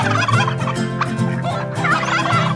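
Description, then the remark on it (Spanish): A turkey gobbles loudly, a rapid warbling rattle of calls running continuously for a couple of seconds with no other sounds around it. “También al pavo.”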